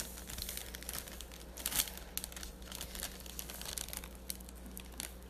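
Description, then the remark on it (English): A plastic bag holding light purple glitter crinkles and rustles continuously for several seconds, fairly soft, with irregular crackly bursts and no talking. “I missed my light purple because it's in a bag.”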